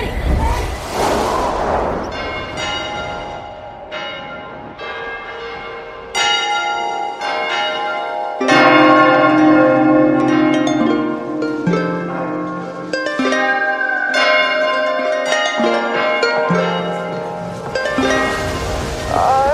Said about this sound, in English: Did you hear that? The nuptial bells are ringing.